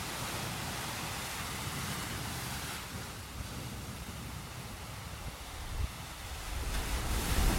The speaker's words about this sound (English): Standing on is like slightly inlet. It's like a slight inlet, only a slight one, but the sea's already gained pretty much up here, and then I think, and it's just touching, starting to touch the wall here now where we are.